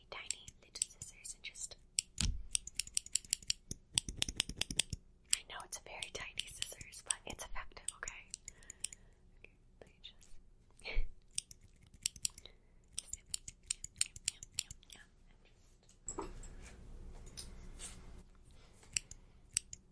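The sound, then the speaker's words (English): Crisp scissors snipping through hair on a person's head in quick irregular bursts, with soft rustling and faint whispering around the cuts, all quiet and intimate. “since it's on your head, I'm gonna need to quickly shave the area around. Let me just take this scissors.”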